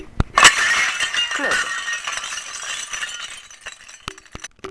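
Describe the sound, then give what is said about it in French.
A mirror, knocked down by a sudden gust of wind in a bedroom, crashes down and shatters with a sharp, bright burst, followed by a long spray of tinkling glass fragments that rattle and clink, thinning out into scattered small pings. “Le miroir tomba dans un bruit stridépersant.”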